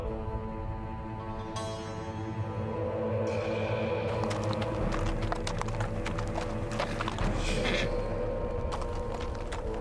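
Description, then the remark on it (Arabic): Steady clip-clopping hooves of a horse or similar mount, a continuous rhythmic patter over a dense background din, fairly loud throughout. “أحضر براحلتي.”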